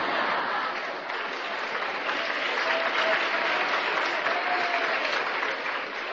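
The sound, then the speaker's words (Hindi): An audience claps steadily for about six seconds, a dense, even wash of many hands with no pauses, loud throughout and only faintly mixed with crowd murmur. “जिस पे ताली नहीं बजानी चाहिए उस पे ताली बजाते हैं।”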